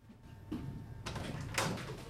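household object, door being opened

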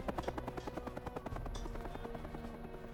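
vehicle, helicopter circling overhead

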